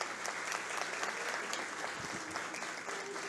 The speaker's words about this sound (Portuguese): De igual modo, também uma salva de palmas.